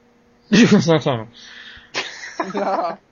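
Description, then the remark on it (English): A person sneezes: a drawn-out voiced build-up, then a sharp, hissing burst of breath and a trailing voiced tail, moderately loud and heard alone. “God bless you, by the way.”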